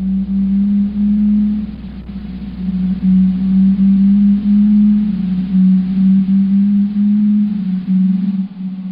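Low-frequency fin and blue whale calls at around 18 hertz: a steady, low droning tone that wavers slightly in pitch and pulses gently in loudness for the whole stretch, with no voices.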